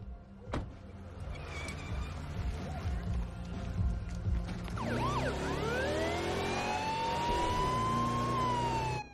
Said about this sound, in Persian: ای ببین، من البته من عاشق اینم که آژیرم رو روشن کنم و از همه یه ماشینا جلو بزنم، ولی به نظر خودتون این کار یکم زیاده روی نیست؟